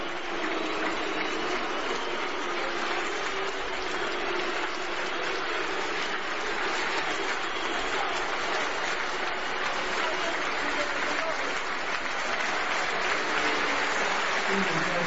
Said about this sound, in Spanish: División de opiniones, lo vimos cuando fue sobre todo sustituido por Mourinho en la segunda parte, ¿no? Escuchamos hablar y abucheos, y además grabé el sonido para que lo escucháis. Vamos a escucharlo.